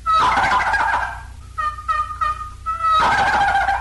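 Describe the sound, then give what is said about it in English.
Turkey gobbles ring out loud: a long rattling gobble, a short run of quick choppy notes, then another full gobble, with no talking; gobbles used in turkey hunting to stir toms into action in spring and fall. “And here are some gobbles, which sometimes stir the toms into action both spring and fall.”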